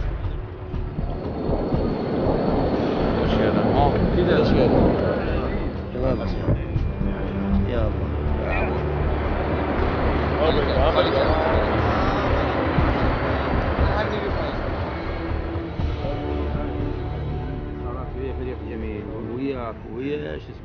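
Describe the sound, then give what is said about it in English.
Heavy armored military vehicles rumble along continuously toward Sadia in a military operation against Daesh militants, a dense, grinding engine roar that stays loud for the whole stretch, with voices mixed in beneath the noise. “Armored cars backed with cannons and warplanes move towards Sadia.”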